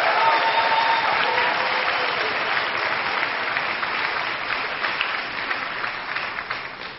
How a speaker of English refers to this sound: And I have to say, this is the 12th convocation that we've had, and you were the most enthusiastic audience with respect to the entry of the students, so I commend you for that and give yourselves an applause.